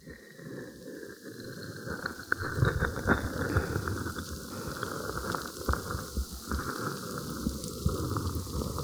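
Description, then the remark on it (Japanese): A steady, dense fizzing and crackling pressed against the ear, like carbonation bursting, with scattered sharp pops over a continuous hiss. It holds at an even, moderate loudness throughout, with no voices. “これをぎゅー耳に押し付けてあげるから、シュワシュワパチパチでいっぱい気持ちよくなろうね。”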